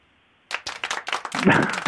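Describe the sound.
After a moment of near silence, a short, small round of applause breaks out: quick, irregular hand claps at moderate loudness, with a voice briefly mixing in toward the end.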